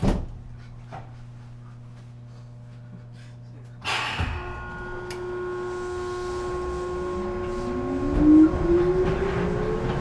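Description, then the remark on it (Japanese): A train bound for Cosmosquare departs from platform 2 of a station: a low steady hum, then a sharp clunk, followed by an electric motor whine that climbs steadily in pitch as the train gathers speed. “2番線からコスモスクエア行きが発車します。”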